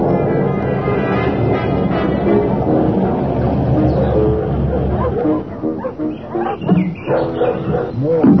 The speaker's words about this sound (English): Pleasant dogs. You must just bring out the worst in them. Awful lot of them, yeah. They breed them.